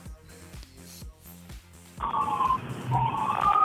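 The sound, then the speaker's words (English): A wailing ambulance siren swells in about halfway through, its pitch sliding up and down over a rumbling background, following a stretch of steady rhythmic low thumps. “Hang on, there's an ambulance coming.”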